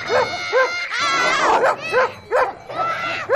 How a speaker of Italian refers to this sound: Ora siete in mezzo al gregge. È chiaro che i cani abbaiano. Ma state distanti dagli animali.